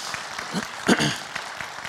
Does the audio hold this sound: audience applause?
yes